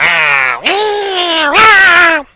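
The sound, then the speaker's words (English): Loud cat-fight yowling: a low drawn-out growl swells into two long, wavering yowls that rise in pitch, with no talking over them. “So, Cat goes in, disappears. Little fight. Sound.”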